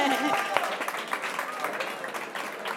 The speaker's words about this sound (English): please, another applause for her.